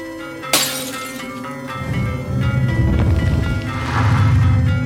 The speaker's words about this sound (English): "Why don't you burn?" she shouted, smashing her oil lamp at the priestess's feet.